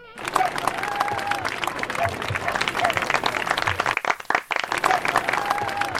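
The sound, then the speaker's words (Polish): A group applauds steadily for several seconds at the opening of the live show Free Life on Radio Enklawa, with dense, fairly loud clapping and a few whistles or whoops. The clapping briefly thins out before picking up again. “Brawa!”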